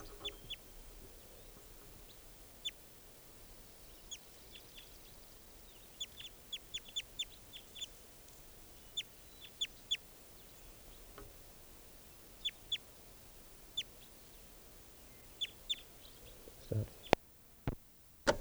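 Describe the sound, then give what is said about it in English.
A type 2 male bird calls repeatedly with short, high, sharp chirps, scattered irregularly and sometimes in quick clusters, over a steady low rumble of background noise, at 7:25 a.m. before being collected. “and I just collected that bird who was just calling.”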